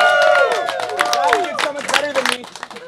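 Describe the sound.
An audience at a live event breaks into steady applause for a 9-year-old attendee, quick overlapping claps mixed with shouts and whoops from several voices, loud and lively for about three seconds.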